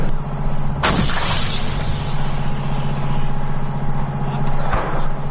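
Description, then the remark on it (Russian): Two heavy 105 mm gun shots boom out about four seconds apart during firing training at targets. Each is a sharp, loud blast with a rumbling tail, over the steady drone of an idling vehicle engine. “Навчання були у нас з тривайської зброї і 105-мм гармати. Ми стріляли, уражували цілі”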